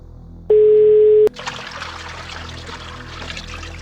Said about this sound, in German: Sie geht davon aus, dass er sich im Waschraum des Flughafens befindet, weil sie lediglich ein Plätschern im Hintergrund hört.